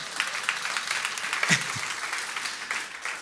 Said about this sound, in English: I'm not only an American citizen. I'm a citizen of the kingdom of heaven. I am. And I think we should, you can clap about that too.